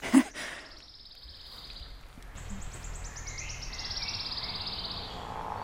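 A wood warbler sings two high, thin trills in a row, the second one longer and speeding up like a spinning coin settling on a table, with no voices.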